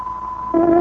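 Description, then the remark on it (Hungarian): A radio time signal on the Szabad Magyarország hangja (Voice of Free Hungary) shortwave broadcast: a steady high tone, joined halfway through by a louder, lower sustained note with a reedy, horn-like quality, a tárogató sounding 17:00. No one speaks. “Most fontos időjelzést adunk. Tárogatónk 17 órát jelez.”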